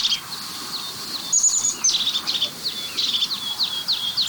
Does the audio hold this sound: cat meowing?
no